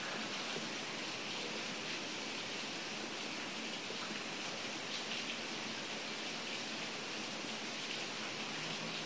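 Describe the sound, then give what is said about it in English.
Steady, dense rain falling, a constant soft hiss with fine pattering texture that never lets up. No voices, just the even wash of rainfall throughout. “The rain preaches the Dharma.”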